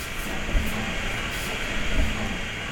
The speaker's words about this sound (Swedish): Titta, nu flyttar hyllan sig till höger och det tänds även lampor här. Här får man inte bli klämd, hör du?